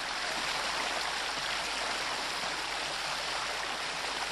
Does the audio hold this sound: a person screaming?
no